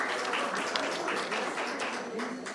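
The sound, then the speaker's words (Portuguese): Audience applause for the four guests at the table: a dense, steady wash of many hands clapping, fairly loud and even, with no distinct individual claps standing out and no talking over it. “Da mesma forma, nossas palmas de todos os convidados.”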